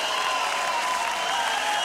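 crowd, audience applause

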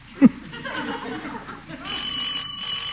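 household object, doorbell ringing

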